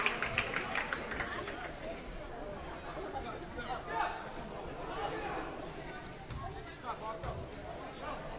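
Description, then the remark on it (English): Dense crowd chatter and babble at a high school basketball game in Danvers involving English High School, with scattered shouts, squeaking footsteps and a few ball bounces rising out of the steady, fairly loud hubbub. “Good crowd on hand here in Danvers tonight for the game.”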